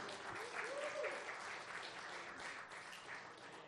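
A church audience claps steadily and fairly loudly for several seconds, a dense wash of many hands, with a brief whistle or cheer rising early on before the applause continues evenly.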